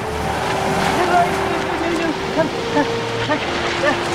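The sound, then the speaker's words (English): Steady sea waves wash over a steeply shelving pebble beach, a continuous rushing surf with small surges. A low, constant hum sits underneath, with faint voices in the background. “makes her way down the steeply shelving beach towards the sea. She reaches the water and walks straight into it.”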